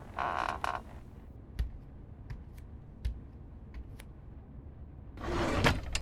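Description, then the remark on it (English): A top drawer slides open with a scraping rush, followed by a few sharp clicks and knocks of things being moved inside, then another sliding scrape at the end. No voices. “Why would I check the top drawer?”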